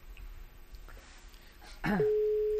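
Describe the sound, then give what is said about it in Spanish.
A telephone ringing tone while calling the NH Núñez de Balboa hotel: a brief click, then a steady, mid-pitched tone that holds without a break until the end. Faint low rumble underneath, and no one speaks. “Venga, pues vamos a llamar.”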